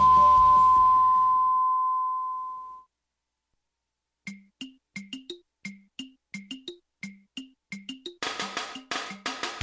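A single sustained electronic tone, the final long beep of the hourly time signal on FM Naha radio marking six o'clock, rings out and slowly fades; after a pause, a bouncy plucked jingle and fuller music follow.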